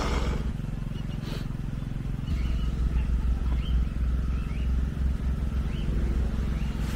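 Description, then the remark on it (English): A generator runs continuously at a hurricane-damaged site, a deep, steady motor drone with a throbbing low hum that holds an even loudness for the whole stretch, with only faint higher sounds above it. “That generator's getting a bit much.”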